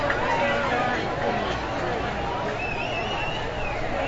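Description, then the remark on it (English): Kennedy fans in a football stadium crowd clapping, a dense, steady wash of applause blended with murmuring and chatter that holds at an even level throughout, with a faint higher tone drifting through near the end. “Kennedy folks are clapping.”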